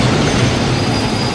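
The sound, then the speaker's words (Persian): An arriving train rumbles along, loud and steady, its wheels letting out a thin metallic squeal on the rails over a dense, continuous roar, before it stops. No one speaks. “قطار بینشون قرار میگیره.”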